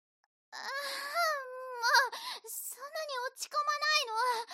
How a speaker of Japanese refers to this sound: 泣いてもダメ。どうせ泣いたふりだっていうの分かってるんだから。